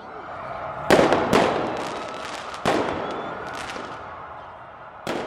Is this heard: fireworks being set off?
yes